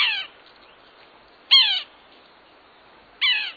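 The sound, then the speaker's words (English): A Yellow-bellied Sapsucker gives three nasal, downslurred mewing calls, evenly spaced about a second and a half apart, clear against a quiet background with no talking. “But, funny name and all, the Yellow-Bellied Sapsucker is a real bird.”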